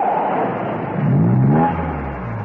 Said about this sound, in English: When Steed's car appeared round the corner of the lane, she slipped out and thumbed a lift.